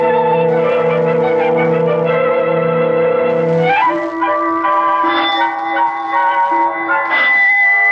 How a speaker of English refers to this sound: Oh, now why doesn't Mrs. Murchison answer that bell? Oh, of course, I forgot. She's gone.